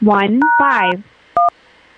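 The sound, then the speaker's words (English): A person talks briefly while a steady two-pitch telephone keypad tone sounds over the voice; after a short pause, another brief keypad beep rings out alone as a 5-digit billing zip code is keyed in for an automated phone system. “Otherwise, after the tone, please press clearly say or key in your 5-digit billing zip code.”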